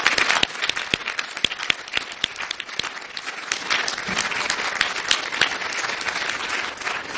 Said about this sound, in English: And another round of applause for Dr. Becklake and Dr. Julien, the Order of Quebec.